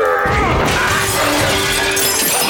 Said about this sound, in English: Kord's mallet hit, instead of the red cap, a glass display case full of China miniatures. Oh, come on! Kord hauled his mallet free of the wreckage, destroying what was left of the glass case.